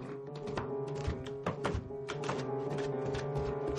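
An old washing machine thumps and clatters steadily, with a low mechanical hum and repeated knocking impacts layered over a constant drone, moderately loud.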